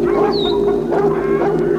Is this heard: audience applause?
no